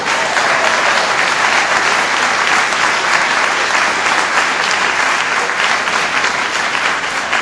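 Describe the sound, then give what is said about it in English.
An audience applauds steadily and loudly after a speaker's statistic on fifth graders' math results, a dense wash of many hands clapping that holds at an even level from start to finish with no voices over it. “Well, that's nothing to applaud for.”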